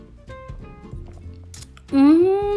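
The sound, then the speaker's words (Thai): A quiet, short slurp of Chinese oolong tea being lightly sipped, one sip, amid faint clicks, then a louder voiced sigh or hum whose pitch rises slightly and holds. “จิบชาไปหนึ่งคำนะคะเบาๆค่ะเป็นชาจีนอู่หลง”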